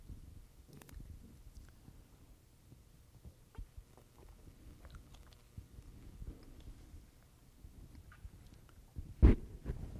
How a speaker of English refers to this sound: I have to get that drink of water in.